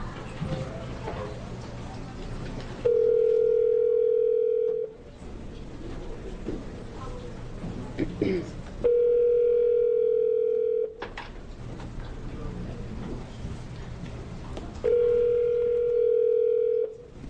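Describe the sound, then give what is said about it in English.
A phone ringback tone sounds three times at steady intervals, each ring about two seconds long and fairly loud, with low background noise and murmuring between rings. It is a call at a public hearing to a person giving testimony by phone; no one answers and it goes to voicemail. “We may be off the hook. Sounds like a voicemail.”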